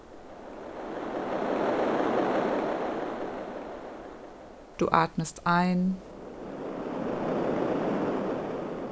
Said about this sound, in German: Höre auf den Klang und den Rhythmus der Wellen.